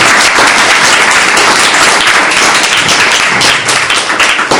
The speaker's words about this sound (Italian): Quindi introdurrei il professore con un applauso.